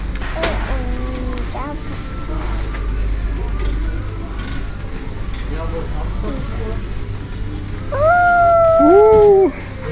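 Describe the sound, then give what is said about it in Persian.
A dog named Chili lets out a loud, sustained howl near the end, wavering and then dropping in pitch. Shorter whiny cries come earlier over a steady low hum. “چیلی دیگه اینجا که این صدا رو در آورد.”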